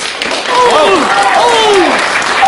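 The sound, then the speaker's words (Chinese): At a solo pingshu storytelling show, the audience applauds steadily and loudly for a couple of seconds, with voices calling out and sliding whoops rising and falling over the clapping. “吓我一跳，光一个人鼓掌多没意思。”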